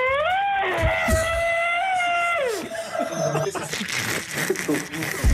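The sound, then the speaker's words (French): A person imitates an elephant trumpeting: a loud, high, brassy blare held for about two seconds before sliding down, followed by scattered rustling and murmuring voices. “Le bruit du barrissement de l'éléphant.”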